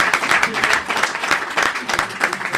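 crowd, applause

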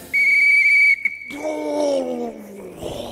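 signal or alarm, referee's whistle blowing

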